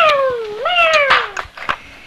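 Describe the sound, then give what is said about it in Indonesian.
A single long cat meow that dips in pitch and then rises again before trailing off, followed by a few soft clicks and rustles. “Ada kucing.”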